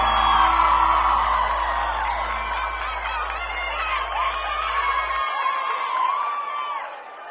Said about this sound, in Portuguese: Uma salva de palmas, Marcos Mioto!